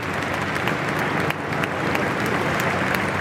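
Sustained applause from a large crowd in St. Peter's Square, Rome, during the funeral of Pope Francis, a dense, steady wash of clapping with scattered sharper claps standing out, no voices on top.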